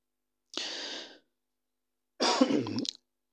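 Two separate coughs about a second and a half apart, fairly loud, the second rougher and more throaty, like a cough that ends in clearing the throat. No one speaks.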